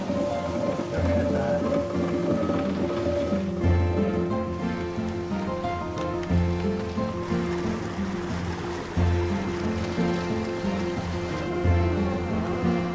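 Steady, loud rush of pouring water fills the scene, with a low rumbling hum and heavy thuds recurring every few seconds as a big wheel turns. No one speaks.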